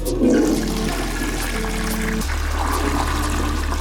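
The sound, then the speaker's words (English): A toilet flushes in one loud rush of water, with a gurgling, churning surge at the start that settles into a steady swirling drain and hum as the bowl refills. No voices are present. “So, if you haven't listened to last week's episode on toilets, hit pause now, or by the end of this flush, you'll have that show spoiled for you.”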